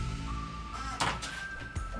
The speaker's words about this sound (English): It's a creaking door, huh?